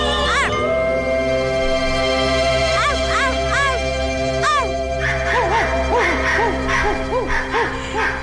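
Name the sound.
small dog barking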